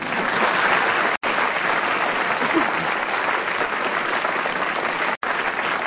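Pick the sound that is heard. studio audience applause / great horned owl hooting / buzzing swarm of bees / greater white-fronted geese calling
studio audience applause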